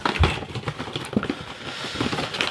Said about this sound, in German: Ja, und jetzt müssen wir da die Schachtel aufmachen, ne? Die dabei liegt. Da sind die Pots drin.